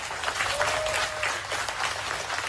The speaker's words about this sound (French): Voilà quelques-uns des applaudissements de dizaines de journalistes, ceux du journal d'opposition Apple Daily, après que le dernier article venait d'être envoyé à l'impression. Dernier article de l'ultime numéro.